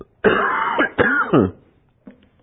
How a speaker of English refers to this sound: Excuse my coughing.